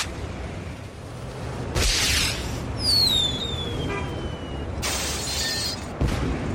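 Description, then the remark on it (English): A firework is set off and shoots into an office, whooshing up with a falling whistle, then loud hissing, crackling bursts follow, ending in a sharp bang, all over a steady noisy background. “can I set off the firework?”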